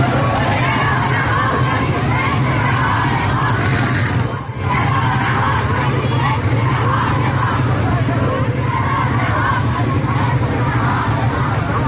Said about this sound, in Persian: در ویدئوهای منتشر شده در شبکه‌های اجتماعی این کشاورزان شعار می‌دهند سوریه را رها کنید، فکری به حال ما کنید.